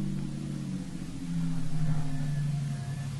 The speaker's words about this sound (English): Plenty dark here. Away from that street light. Might be this car coming.